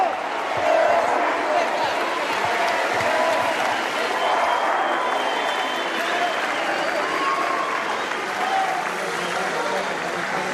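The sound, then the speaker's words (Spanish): A large crowd at the Auditorio Nacional in Mexico City cheers and applauds Claudia Sheinbaum as she enters, in a steady, dense roar, with massed voices chanting "presidenta, presidenta" through it at an even, fairly loud level from start to finish. “Al ingresar al recinto, Sheinbaum Pardo fue recibida con tenues gritos de presidenta, presidenta.”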